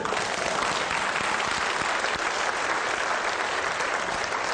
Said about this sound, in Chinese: 结果后面的人读到都认识他的祖先，突然讲到的时候，底下也响起一片热烈的掌声